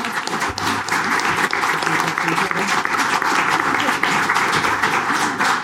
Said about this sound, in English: Thank you, guys. Okay, let's give claps. Come on.